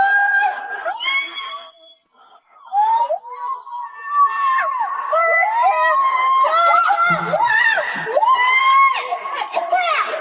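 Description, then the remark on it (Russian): Many overlapping high-pitched children's squeals and shrieks from children riding water slides rise and fall continuously, with excited chatter mixed in and a brief lull near the start before the shrill voices pick up again. “Вот визжат, а?”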